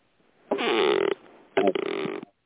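A reclining sofa creaks twice: two rough, squeaky groans, each about half a second long, separated by a short pause. No voices are heard.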